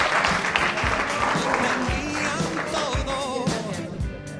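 A crowd breaks into loud, sustained applause, a dense steady wash of clapping lasting several seconds, with a few voices calling out underneath before it starts to thin slightly at the end.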